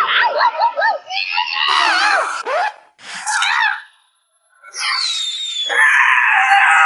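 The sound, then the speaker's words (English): Panicked passengers scream and gasp in a car, several high, wavering shrieks overlapping in bursts, breaking off briefly before one long, shrill, sustained scream takes over. “Can the passengers stop panicking in the back of the car, please?”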